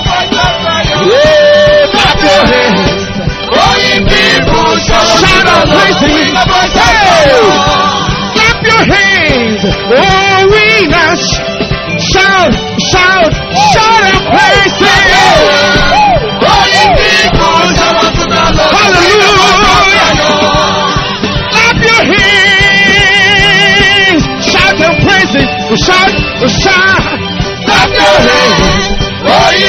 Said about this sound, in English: Shout out to the Lord with a voice of triumph. Shout hallelujah. Holy glory to God.